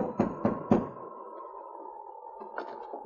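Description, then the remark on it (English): Three firm knocks on the wooden back door of a general store in the darkness, in quick, even succession, followed by a lingering resonant ring that fades, then a few faint soft taps toward the end. “To avoid attracting attention, they halted their teams in the darkness behind the general store and knocked on the back door.”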